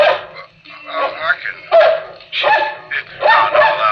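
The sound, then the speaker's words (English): A dog barks in a rapid, uneven series of loud, yappy bursts, with brief pauses between clusters of barks. “That's all right, doggy. You bark as much as you want.”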